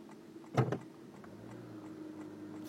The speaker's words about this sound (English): These cars are really fucking this thing up.